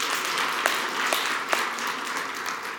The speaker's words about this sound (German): Okay, Applaus für unsere beiden Pantomimer.